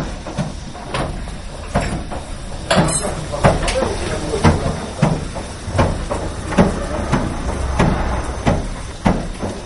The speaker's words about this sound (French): Alors là, c'est la vapeur qui rentre dedans. Alors la vapeur a une certaine pression, donc elle fait reculer le jus de poire. Hein, mais quand il n'y a plus de force devant elle, elle se dissout, la vapeur se dissout.